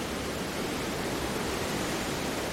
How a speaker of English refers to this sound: but that actually means, because we don't have all that green foliage in the way, we get a really nice clear shot of the Kelvin, and you can really, really hear the water now.